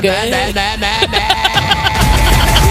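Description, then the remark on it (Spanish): A slightly seized car engine sputters and revs unevenly, its pitch wobbling as it strains, then settles into a rough, loud rumble. “Es un poco moto, pero bueno, hemos hecho lo que hemos pasado. Está un poco gripado el motor, pero...”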